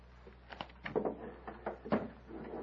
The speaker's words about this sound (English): Come into the next room. Close the door, Foltar.